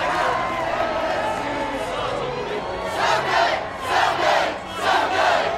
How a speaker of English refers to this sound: Along the streets, the crowd was large and loud, and when the boat's speakers blared a Fenway favorite, fans sang along.